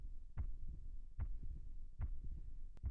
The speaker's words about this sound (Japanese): 心臓の音少しだけ早くなったかも。ほら、ドキドキ、ドキドキ、ドキドキ。